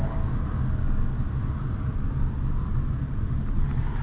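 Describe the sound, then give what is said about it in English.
A car engine hums steadily as the car idles down the road at low speed on a 92-degree day, a continuous deep rumble with a faint hiss over it, unbroken and even in loudness, with no voices. “Just kind of idling down the road here.”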